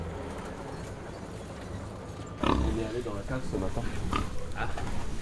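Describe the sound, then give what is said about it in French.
Pigs on a pig farm grunt in a quick, irregular series of snorts and grunts, starting after a couple of seconds of steady background noise and continuing to the end. “Une porte mal fermée égale cochon dehors.”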